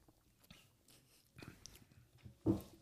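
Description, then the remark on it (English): Quiet mouth sounds of someone sipping a dark stout beer and swallowing, a few soft wet slurps building to one louder gulp near the end, with no talking. “I got to try and go in for a sip, so. Yeah. Glug, glug, glug, glug, glug.”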